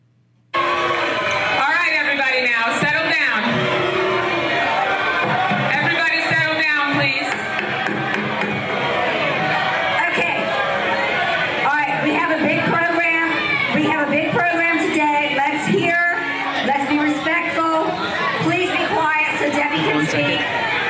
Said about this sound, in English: Chiron on MSNBC, Wasserman Schultz receives cheers at Florida delegation breakfast. Does this sound like cheering to you, gang? She's being booed off the stage. I mean, she legitimately has to leave. Like, right after this, she leaves.